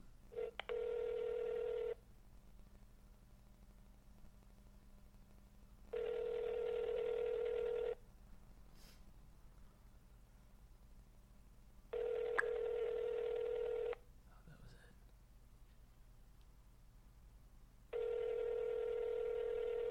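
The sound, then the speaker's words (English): A telephone call to Jose Canseco ringing through the earpiece: four evenly spaced two-second rings separated by longer silent gaps, heard over a faint steady line hiss with no one speaking. “So let's give Jose a call.”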